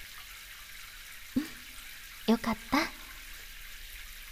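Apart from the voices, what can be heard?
shower water running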